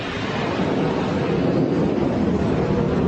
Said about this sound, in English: It's been a while since I've had the airplanes this close.